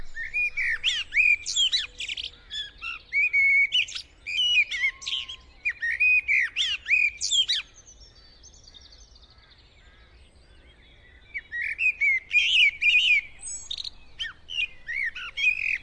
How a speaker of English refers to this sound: Now, we begin in this programme with the thrushes, and first up a bird which I think is one of our most beautiful songsters, the blackbird.